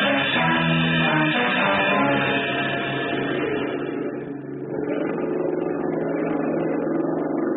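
An outboard motor runs with a steady, loud droning hum and buzzy low tones, holding an even pitch throughout with a slight dip midway. No one speaks.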